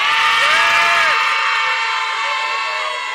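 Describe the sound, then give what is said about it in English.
A crowd shouts "yes" together in a vote that women are more faithful, a loud, sustained roar of many voices, with high pitched individual yells rising above the din before it gradually tapers off. “now you can cut the shouting”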